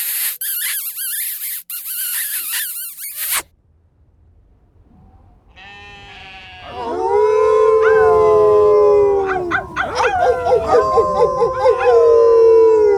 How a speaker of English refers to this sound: Right, enough howling.